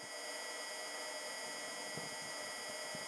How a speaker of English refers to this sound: That hum is the sound of the rover itself. With that noise filtered out, gentle wind gusts become clear.